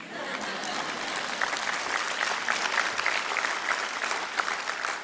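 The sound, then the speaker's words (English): An audience applauds steadily for about five seconds, a dense, even wash of many hands clapping at a fairly loud, constant level with no voices rising above it. “That's good, and you are to clap now.”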